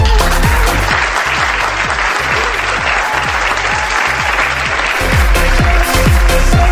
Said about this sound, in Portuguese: Mereceu uma salva de palmas, não tem o que fazer, filha.